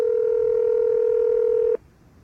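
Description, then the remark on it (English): A telephone number being dialed: one steady, mid-pitched electronic phone tone holds for under two seconds, then cuts off abruptly, leaving faint line hiss. No one speaks. “Let's just call.”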